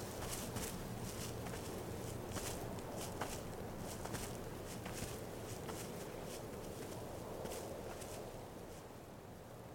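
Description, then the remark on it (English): Footsteps walk at a steady, even pace, each step a soft, crisp tap, over a constant low rumbling background hum. No one speaks. “But please, keep walking with me.”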